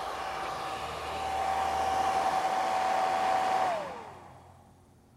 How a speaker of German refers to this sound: Drücken Sie Dryer. Ihr Gesäß wird getrocknet.